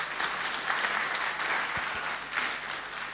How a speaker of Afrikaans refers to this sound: Kom skiep vir hulle hande klap, né?